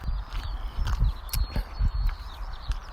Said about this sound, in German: Jetzt gehe ich wieder zurück an den Rand der Bahn und gehe jetzt einfach an der zwischen Wiese und Asphaltkante entlang.